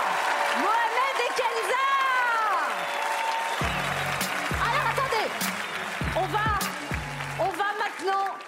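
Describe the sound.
Loud, steady audience applause for a couple fills the whole stretch, mixed with cheering and whooping voices, while a low rhythmic thumping pulses through the middle part.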